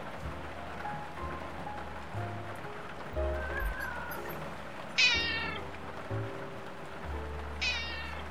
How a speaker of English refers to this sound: She is a really fluffy cat. We brush her on a regular basis. She's also one of the smarter ones.